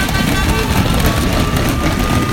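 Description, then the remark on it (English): Racing bicycles speed down the final straight of stage one of the 2018 Tour de Yorkshire as the field comes through after the winner, a steady, dense rushing roar with a heavy low rumble and a thin sustained whine riding on top, with no voices. “You can hear the bikes coming through and the speed they're making down this final straight.”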